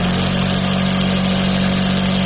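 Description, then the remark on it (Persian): Sewing machines run in a steady, continuous motorized whir with a low droning hum underneath, loud, with no pauses and no voices, in the tailors' lane, formerly the cassette sellers' lane, in the center of the town of Firozkoh. “ماشین های خیاطی.”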